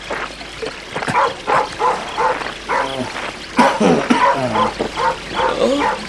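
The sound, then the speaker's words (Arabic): A dog barks over and over in quick, uneven bursts, fairly loud, with a few higher yipping barks mixed in and no one speaking, late at night near a mill on a riverbank. “إيه يا كلبي، ترى لماذا النباح؟”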